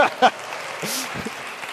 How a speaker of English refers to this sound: Why is only one person clap at a time in this gym?